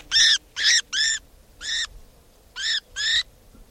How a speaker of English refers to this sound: This now is bird 490.